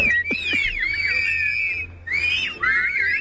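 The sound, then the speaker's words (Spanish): Loud, sharp whistled phrases with rising and falling glides, several overlapping whistlers from a cultural association communicating in Silbo Gomero, a whistled language, outdoors at the Puerta del Sol with a low crowd murmur beneath, brief pauses between bursts. “Bueno, este sonido en la Puerta del Sol es la Asociación Cultural del Silbo Gomero, que es un tipo de lenguaje particular que ha sido reconocido como Patrimonio Inmaterial de la Humanidad”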